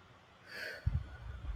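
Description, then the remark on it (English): A breathy exhale hisses out over about half a second as a person breathes out during a guided breathing exercise, followed by soft low rumbling air noise as the breath trails off into the microphone. “Now, out.”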